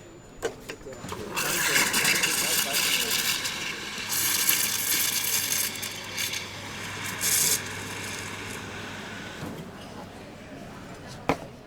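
An espresso machine's steam wand heats oat milk with a loud, rough hiss that runs steadily for about eight seconds, wavering and gurgling slightly before cutting off, followed by a short click.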